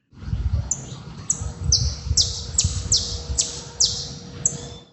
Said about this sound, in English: Then he sent in a saffron finch.